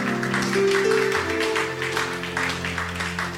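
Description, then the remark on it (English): A church audience claps for Jesus after a prayer, in a dense, continuous wash of applause that stays steady throughout, with sustained keyboard or organ chords ringing underneath. “Is that how to clap for Jesus?”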